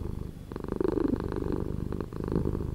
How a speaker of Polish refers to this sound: Odpowiedź: tak mruczy kot